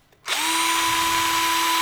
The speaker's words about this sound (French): Attendez, je crois que j'ai envie de donner un petit coup de perceuse. Allez.